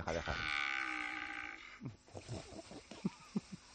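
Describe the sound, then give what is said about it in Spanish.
A person imitates a cow's moo with one loud, drawn-out bellow lasting about a second and a half, followed by a few short, choppy vocal sounds. “Y la vaca muge todavía hasta ahora.”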